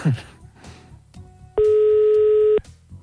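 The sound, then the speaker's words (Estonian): A single loud, steady telephone ringing tone sounds for about a second over quiet background hum, with no answer following it, while calling the winner of a prize draw. “No mis seal ikka, laseme kaks korda veel kutsuda ja siis on nii.”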